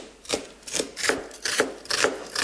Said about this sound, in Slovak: ako chceš nasekať tú cibuľu? Ako ju potrebuješ upraviť? Na drobno ťa veľmi pekne poprosím, si zlatý.